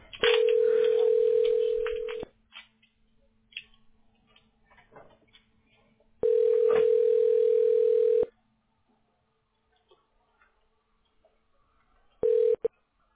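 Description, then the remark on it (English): A telephone ringback tone on an outgoing call: a steady, fairly loud electronic buzz rings for about two seconds, pauses, rings again, then a third ring cuts off almost immediately. “It's just ringing.”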